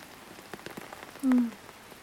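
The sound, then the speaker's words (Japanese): Steady rain patters on a roof overhead, with scattered taps of individual drops and a brief low droning tone rising partway through. No one speaks. “うん、雨降ってるから。”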